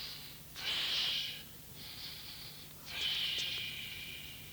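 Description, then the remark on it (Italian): A voice imitates a sleeping person's slow, airy breathing: two drawn-in, hissing breaths, each followed by a softer, longer exhale. It sounds steady, with no talking. “Ora, se prendete questi tre suoni e raffigurate una persona che dorme, avete un suono come questo.”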